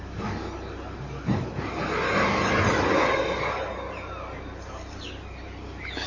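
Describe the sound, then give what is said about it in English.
A drill bores a hole into a large, 27,000-liter plastic tank, a rough, hissing whir that swells for a second or two and then fades, over steady low background rumble and occasional bird chirps. “So they're actually now drilling a hole into the tank. You may hear the drill.”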